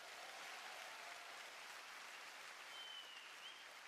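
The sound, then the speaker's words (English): An audience applauds steadily, a dense, even wash of many hands clapping that holds at a fairly constant level for about four seconds, with no voices over it. “Don't applaud, you never saw her.”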